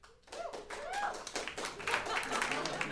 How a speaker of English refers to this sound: Golf claps. You got a few.